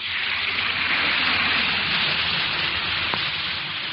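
An effervescent Alka-Seltzer antacid tablet fizzes in water, a steady, dense crackling hiss that holds at an even loudness for the whole stretch, with no voices over it.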